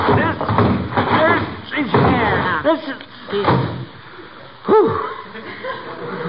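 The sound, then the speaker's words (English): A heavy old trunk, of a kind not manufactured for 75 years, is hauled into a house with bumps and scrapes, its contents jingling, then lands with a solid thud, while people strain, grunt and let out breathless chuckles. “That's the heaviest piece of luggage I ever saw.”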